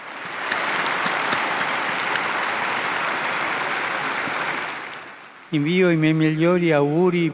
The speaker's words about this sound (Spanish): Un aplauso para el nuevo Beato.